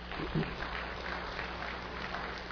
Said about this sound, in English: Be seated. Give him a hand, all right?